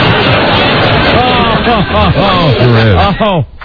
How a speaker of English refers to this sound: That's still applause in the background.